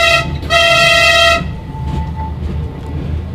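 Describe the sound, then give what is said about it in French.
A loud train horn, sounded by the train's guard to signal the driver, blasts twice, a short one then a longer sustained one, over a low rumbling of the moving train that continues after the horn stops. “Attendez, je fais klaxon.”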